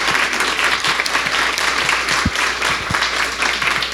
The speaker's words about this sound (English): I think these candidates all deserve a round of applause for the job they did.